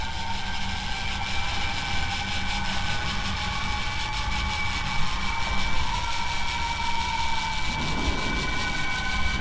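Drawing machines' motors whir in a steady, continuous mechanical hum with a thin high whine as they draw large circles and ovals, and a soft scratchy rasp near the end is a pen scraping over paper.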